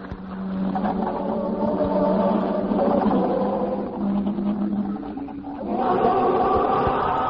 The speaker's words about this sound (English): This is New Mexico again. We're sorry to cut in, but that roar you're hearing, the roar of a crowd, it's the moment we've been waiting for. I can see the crew of the Venture walking up the catwalk that leads to the spaceship.